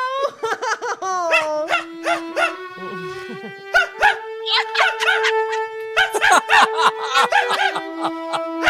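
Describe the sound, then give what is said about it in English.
A small yappy dog named Oscar barks in rapid, high-pitched bursts mixed with whiny, drawn-out yelps, loud, going almost nonstop for several seconds. “It's one of those yappy You're little things.”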